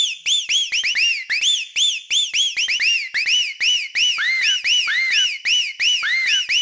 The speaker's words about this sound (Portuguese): Agora vamos testar o som, testando os agudos.